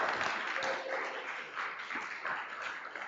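A crowd applauds steadily for a few seconds, a dense, even wash of many hands clapping at once, moderately loud with no voices standing out.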